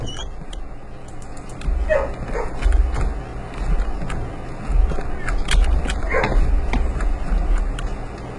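Dogs bark and yip in scattered bursts with an occasional whimper, heard over a steady low rumbling background.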